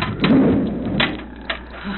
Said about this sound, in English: They are closing the section doors.